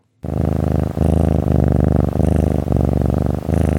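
The pet cat Louis Blue Eyes purring steadily, a deep continuous rumble broken into rhythmic cycles by each breath, with no voices or other sounds.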